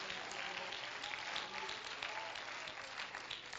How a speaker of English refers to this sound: Oh, clap your hands and thank God for this revelation of truth.